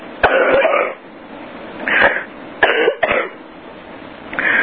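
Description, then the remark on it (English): Several harsh coughs come in short bursts with brief pauses between them, loud and raspy, with no talking. “Excuse me, I had to cough.”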